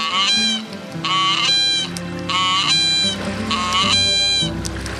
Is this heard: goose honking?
yes